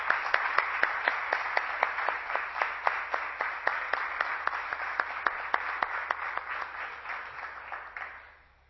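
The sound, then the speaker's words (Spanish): An audience applauds steadily for several seconds for the association's absent secretary, treasurer and press officer, a dense wash of many hands with a few sharper, regular claps standing out on top, then the applause fades away at the end. “Y aunque no puedan estar hoy aquí, sí me gustaría pediros un fuerte aplauso para ellos, que son los que realmente sacan el trabajo adelante.”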